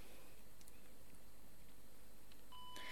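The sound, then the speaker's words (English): A small electronic labeling pen, powered by AAA batteries, gives a short, quiet beep near the end as it is switched on, just after a faint click, against a soft background hiss with no talking. “And you probably heard a little beeping sound there.”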